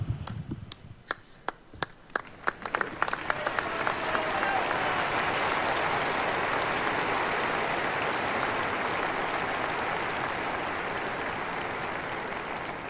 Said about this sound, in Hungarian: Kedves hallgatóink, ebben a nagy tapsban ugye hallhattuk a mieink tapsát is,